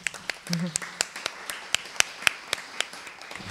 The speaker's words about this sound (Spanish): Y bueno, pues un aplauso para su agenda, me parece muy, muy importante.